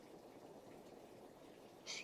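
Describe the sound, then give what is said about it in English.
Steady, low rushing of hot water running into a bathtub fills the background, with a brief spoken word near the end. “See, this is a bathtub. Hot water is going to come out here.”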